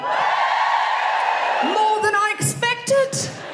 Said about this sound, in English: So if you're a rich lady over 30, this is your special day. Just give us a cheer. Oh, they're all sitting over there, aren't they? Let's give us a cheer if you are a lady with a mortgage over 30.